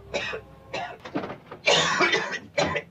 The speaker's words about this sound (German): Dein Husten entwickelt sich. Muss noch mehr rauchen.